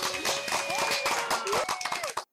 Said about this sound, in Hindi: अरे बच्चों तालियां तो बजाओ।